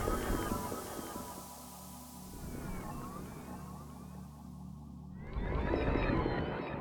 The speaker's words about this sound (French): Puis, le chant des baleines disparues enveloppèrent l'atmosphère d'une sérénité qui traverse les âges.